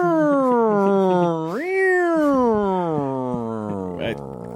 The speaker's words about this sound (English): The cat is driving the cop car, doesn't know how to work the siren, so just meows out the window.